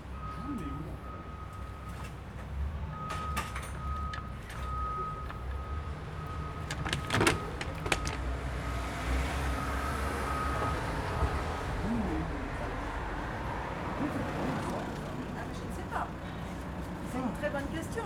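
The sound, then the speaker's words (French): Metallic scraping and clanking as a worker works loose and removes the door of a metal roller shutter to fully open an entrance, with a sustained squealing tone, scattered sharp knocks, and faint voices underneath. “Donc il va carrément enlever la porte du rideau pour ouvrir complètement l'entrée.”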